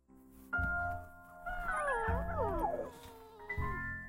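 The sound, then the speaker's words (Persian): A dog whimpers and howls in long, wavering, high-pitched cries that rise and fall, with a low rumbling background beneath. The cries are fairly loud, without any talking. “آی داگ، بیا اینم جایزت.”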